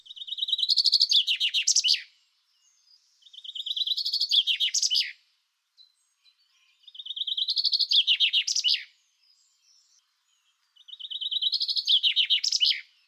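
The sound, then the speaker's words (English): Four bursts of chaffinch song, each a bright descending trill that speeds up and ends in a quick flourish, repeated with short pauses between. Clear, with no other sounds. “And you can hear that in chaffinch song. Here it is again.”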